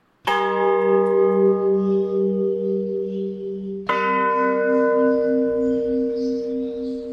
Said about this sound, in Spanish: Torre de Catedral, campanas con vista al norte, siempre en sentido de las manecillas del reloj, campana 1 y 2.